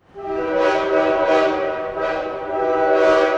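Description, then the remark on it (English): A loud train horn blares in a long, steady chord with rumbling rail noise underneath and a few rhythmic swells of hiss, with no voices. “Do you go by train?”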